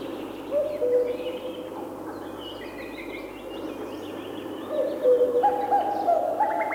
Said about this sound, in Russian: Все время слышны кукушки. Иногда их можно услышать даже ночью. Это кукуют самцы.